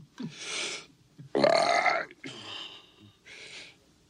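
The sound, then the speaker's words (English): A series of four loud, drawn-out belches in quick succession from a burping scene in the film Ben-Hur, each a rough, resonant burst with brief pauses between, the second being the longest and most forceful. “we covered a film that had an early burp, Ben-Hur.”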